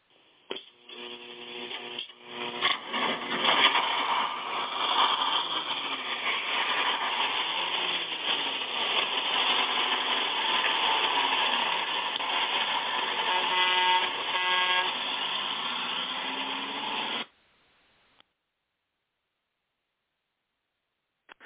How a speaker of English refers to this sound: All right, and as we get ready to pull out of the station with the old Six Eyes Gospel Bus,